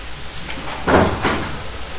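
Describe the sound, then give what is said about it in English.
A screen door swings shut with a soft clattering thud, followed a moment later by a second quicker knock as it latches, with no talking. “Okay, is the screen closed? That one? Yeah? Okay. No, as long as the screen, because I saw some mosquitoes. I'll latch it. Or just close the doors.”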